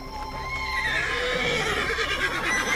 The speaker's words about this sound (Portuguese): Controle os cavalos!